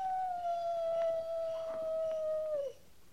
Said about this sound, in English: That's just a coyote. Just a coyote.